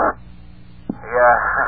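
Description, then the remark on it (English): A short, tinny radio transmission with a couple of echoes: a burst of narrow-band static, a sharp click, then a muffled, garbled voice crackling through the speaker at moderate loudness. “We're over here by the Lincoln Tunnel here, and we did hear a couple of echoes in there.”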